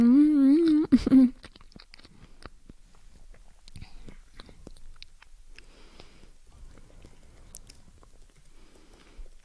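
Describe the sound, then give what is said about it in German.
Wet mouth smacking and soft chewing clicks as a person eats a banana, in an irregular rhythm, fairly quiet, following a brief loud hummed vocal tone at the very start. “Ihr seid gerade verwirrt, aber denkt mal, ich esse meine Banane, weil das mache ich eh nebenbei gerade. Ihr könnt mich schmatzen hören, vielleicht klappt das ja.”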